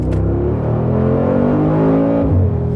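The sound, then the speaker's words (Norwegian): A Lancia Delta Integrale HF Evo 1 rally car engine revs loud, its droning pitch climbing steadily before dropping sharply near the end, like a gear change, with no voices. “Det Lancia Delta integrale Evo 1.”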